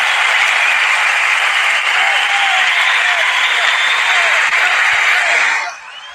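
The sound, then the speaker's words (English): A large crowd applauds in a dense, steady roar of clapping that holds loud for about five seconds, then drops off abruptly near the end. “That's a big crowd right there, man.”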